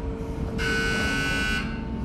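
A harsh, steady warning buzzer from a rail transfer table in a railway workshop sounds for about a second, announcing the movement of a rail car from track 16 to track 7, over a low mechanical rumble of rail machinery, then cuts off, leaving the industrial background hum.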